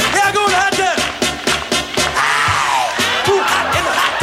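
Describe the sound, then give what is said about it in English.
A voice loudly imitates a singer's signature scream: a string of gliding, strained yelps and whoops, over a steady rhythmic thumping beat. “it's almost more better in some ways when Eddie Murphy does the … scream”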